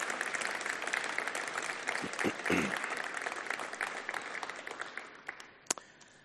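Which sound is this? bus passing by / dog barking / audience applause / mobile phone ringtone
audience applause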